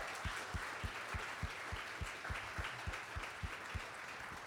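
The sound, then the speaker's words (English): A church audience applauds during a morning service to honour those who have served, a dense wash of clapping from many hands with a few sharper, steadier claps standing out at a regular beat throughout. No one speaks. “So we want to give you a round of applause.”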